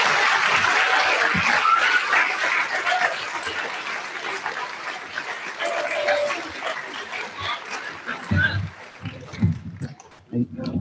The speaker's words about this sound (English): Let's give a nice round of applause for all of our honorable mentions.